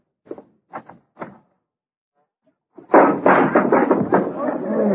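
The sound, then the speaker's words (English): A wooden door bangs three times in quick, uneven succession, then after a short pause gives way to a long, loud stretch of rattling, clattering thumps. “Door needs a little tightening too, don't it?”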